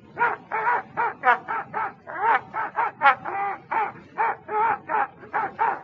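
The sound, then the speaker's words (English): A dog howls in a quick, sing-song series of about fifteen short, tuneful yowls, rising and falling in pitch, fairly loud, with no talking over it. “Now I want you to sing. No, no, Toby. Not the blues.”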